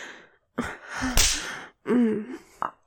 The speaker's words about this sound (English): You like having your cheeks slapped, you fucking slut? I'm sure you do.